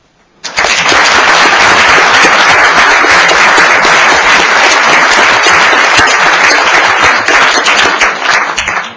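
Sustained applause from a large crowd fills a hall, a dense steady wash of many hands clapping that starts abruptly and continues loudly without any speech.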